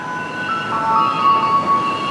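A loud garbage truck rumbles past, its engine noise layered with steady, high-pitched mechanical whining tones that hold through the whole moment without pause.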